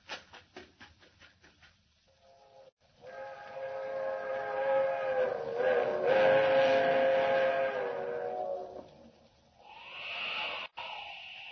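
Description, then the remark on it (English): A train whistle blows in a long, sustained wail for the highway crossing over a rushing rumble as a fast train draws near, preceded by a rapid clattering rhythm and fading into lighter noise at the end. “She's whistling for the highway.”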